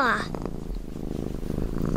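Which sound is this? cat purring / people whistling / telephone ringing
cat purring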